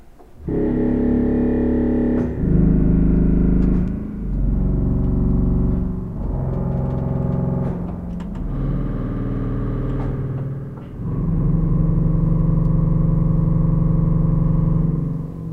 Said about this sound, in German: Wir fangen mal mit der Lage an, die so ein 16-Fuß-Register noch hatte. Der ist nämlich auch schon ziemlich tief. Da sind wir jetzt noch eine Oktave über dem tiefsten Ton.